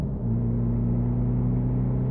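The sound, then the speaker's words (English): A car engine drones steadily, a loud low rumble with a sustained hum as the vehicle drives along at speed, with no voices. “you're driving so fast.”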